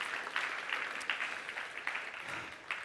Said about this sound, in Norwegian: Er det noen som skal sykle Nordsjørittet her denne søndagen? Ikke det. Ja, det er å se her. To stykker. Applaus til dem, folkens. Brødre, så bra.